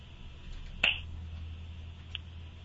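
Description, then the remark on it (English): A crisp, bright finger snap rings out on its own at the end of a guided meditation, followed about a second later by a much fainter second snap, over a steady low background hum with no talking. “And when you feel comfortable, you can open your eyes and snap your fingers.”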